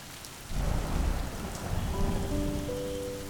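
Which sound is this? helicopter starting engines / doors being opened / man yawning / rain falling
rain falling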